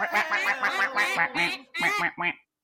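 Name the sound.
duck quack sound effect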